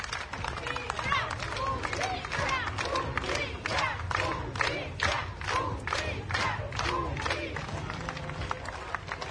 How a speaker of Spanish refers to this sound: Estos eran los aplausos, los gritos a las afueras del cementerio que protagonizaron cientos de personas y acompañaron al cortejo fúnebre en medio de un fuerte operativo policial.